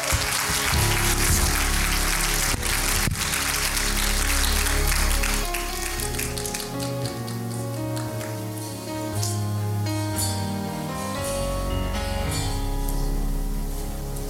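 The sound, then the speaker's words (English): An audience claps their hands in praise in a dense, continuous wash of applause, blended with sustained organ or keyboard music playing underneath throughout. “Can you clap your hands and give him praise?”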